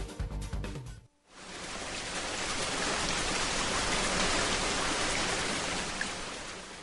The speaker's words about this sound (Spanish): En casa, resguardado de la lluvia que se ha hecho presente de manera intermitente durante el día,